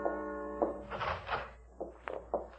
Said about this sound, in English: Steps first, then a door.